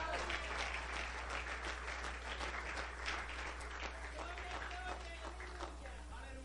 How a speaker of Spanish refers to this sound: ¿Cuántos dicen amén a eso? ¿Cuántos le dan un aplauso a Dios?